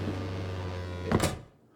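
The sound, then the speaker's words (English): A door opens or shuts with a short, sharp knock and rattle over a low steady hum, followed by quiet. No one speaks. “The door?”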